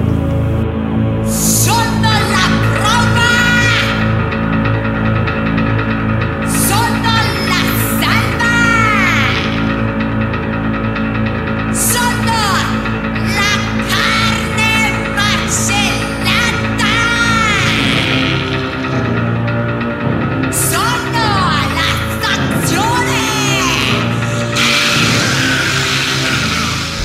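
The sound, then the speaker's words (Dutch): A woman performer dressed in gothic clothes, seated at a piano on stage, shrieks and wails in piercing, sliding cries over dense, sustained piano chords, her voice more screamed than sung, loud throughout with brief pauses between bursts. “Op het podium zit ze aan een piano, helemaal in gothic kleren en ze schreeuwt meer dan ze zingt.”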